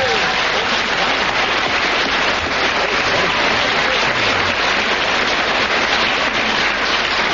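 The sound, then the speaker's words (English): A crowd bursts into sustained, loud applause for a timed 12-second round, dense clapping continuing evenly from start to finish, with faint cheers mixed in and no pauses. “Applause with 12 seconds starting from now. The better the applause, the louder it is.”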